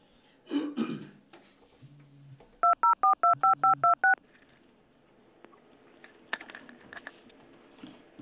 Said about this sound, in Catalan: Estem preparant aquí, acabant de marcar el número. Li tornem a donar.